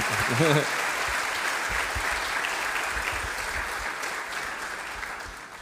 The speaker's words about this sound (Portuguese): Aleluia, louvado seja o Senhor. Dê um aplauso ao Senhor, irmão. Glorifique o nome dele.